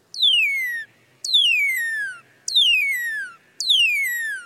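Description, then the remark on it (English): A cardinal's song played slowed down: four smooth, clear whistles, each sliding steadily from high to low pitch, repeated at an even pace with short gaps and no voices. “Here's the song slowed down.”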